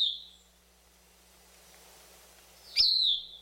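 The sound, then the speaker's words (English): Song of a Bicknell's thrush at dawn among fir trees, with two bright, high whistled phrases, a brief one at the start and a louder one near the end, separated by a quiet pause. A sharp click opens the second phrase. No one speaks. “Corduroy brown above and pale below, with messy spots on its breast, the thrush isn't really known for its good looks.”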